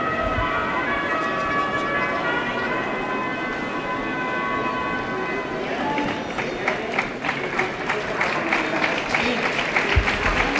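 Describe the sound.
A concert audience bursts into applause about halfway through as members of the Portuguese Symphony Orchestra (Orquesta Sinfónica Portuguesa) appear on stage, a dense crackle of many hands clapping that follows steady sustained tones, with public address sound and a murmur of voices underneath.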